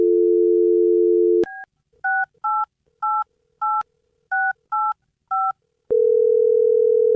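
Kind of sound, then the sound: signal or alarm, telephone dialing and ringing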